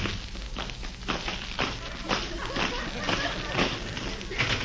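A loud, rumbling explosion effect made by shaking a very thin rubber bag filled with small pebbles, held up to the microphone: a dense, crackling roar with repeated bursts throughout.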